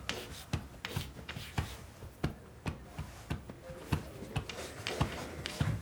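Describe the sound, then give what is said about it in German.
Chalk scratches and taps across a board as a woman writes with a second piece of chalk beside a man, a quick, uneven series of sharp clicks over a soft, gritty rasp, steady and moderately loud, with no one speaking. “Sie nimmt ein zweites Kreidestück und schreibt neben ihm.”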